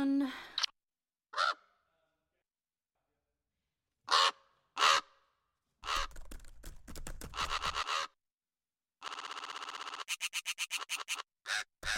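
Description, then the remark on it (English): A raven calls in a series of harsh, croaking bursts, some single and some in rapid repeated runs, loud against silence, with no voices present. “Raven”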